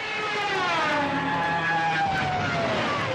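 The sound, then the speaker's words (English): A loud, continuous dive-bomber siren scream from a German World War II Stuka, its pair of wing-mounted sirens called Jericho trumpets, wails over a dense engine roar, its layered tones sliding slowly downward in pitch. No voices are heard. “These are the siren screams of Stukas, dive bombing German airplanes from World War II.”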